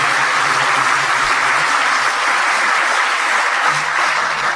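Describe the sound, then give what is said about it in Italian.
A crowd applauds consul general Francesco Variale at an evening event in the city of Genk, Limburg province, a steady, dense, even wash of many hands clapping at constant loudness throughout, with no voices standing out. “Poi do un benvenuto, caloroso benvenuto al nostro console generale Francesco Variale, che ha voluto fortemente che questo progetto andasse avanti, e io farei un applauso al nostro console per la sua presenza costante nel gruppo.”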